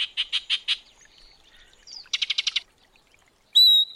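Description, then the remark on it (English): Yellow-breasted chat calls ring out alone: a run of four harsh chattering notes, a softer pause, a quick rapid burst of six, then a clear whistled note to finish. “When the northern summer declines, the yellow-breasted chat will make its way south to winter in Central America, until the springtime draws it north again.”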